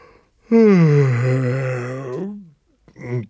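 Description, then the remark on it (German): A long, loud voiced yawn stretches for about two seconds and sinks in pitch at the end, followed by a brief vocal sound after a short pause. “Das Gähnen steckt an, meine ich.”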